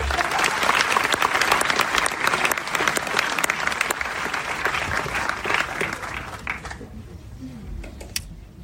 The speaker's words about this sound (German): Kräftiger Applaus